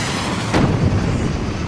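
A plane is shot down on its landing approach at the airport in Kigali, Rwanda, around 8:30 pm on 6 April 1994: a single heavy explosion bursts out after a brief rumbling lead-in, followed by a deep, sustained low roar that lingers without fading. No voices are present.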